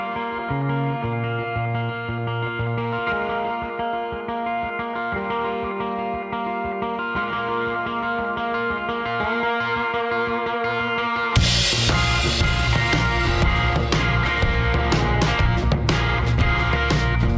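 A blues song from a solo album opens on a sustained, effects-laden guitar for about eleven seconds, then the full band crashes in with loud, driving drums and thicker accompaniment. No voices are heard.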